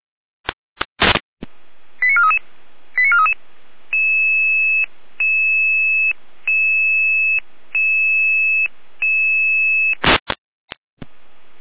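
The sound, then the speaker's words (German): Electronic radio pager alert tones from the Jena dispatch centre in Germany, alerting fire brigades to a building fire in Volkmannsdorf near Saalfeld: a burst of clicks, short warbling beeps, then a long run of steady alternating two-pitch tones in even blocks, ending with more clicks. Loud and clear, no talking. “Jena, Ende Alarm. Jena, Folgealarmierung.”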